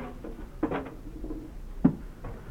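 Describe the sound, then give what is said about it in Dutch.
Heavy rain patters steadily outside, a soft continuous wash of drops heard from indoors, broken by a couple of brief louder taps. “het regent nogal hard.”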